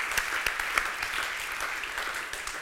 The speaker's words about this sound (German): Und das verdient Applaus.